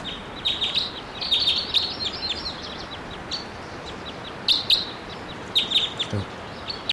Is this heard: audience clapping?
no